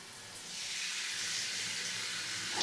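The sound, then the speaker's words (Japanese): A shower head sprays steadily while rinsing out shampoo at the end of a head spa treatment, a continuous bright hiss of running water that holds an even level throughout, swelling slightly at the very end, with no voices. “シャワーの方失礼させていただきます。”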